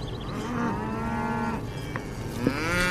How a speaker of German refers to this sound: Mami, guck mal, Kühe. Können wir anhalten und uns die Kühe ansehen, bitte?